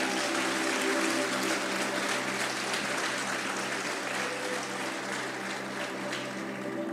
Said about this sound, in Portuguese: Dê uma salva de palmas então a Jesus.